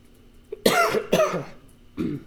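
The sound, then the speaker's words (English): A person with allergies gives two sharp coughs in quick succession, loud and harsh, followed by a softer throat-clearing sound; no talking. “I'm going to cough and sneeze probably a lot. My allergies are bothering me this morning.”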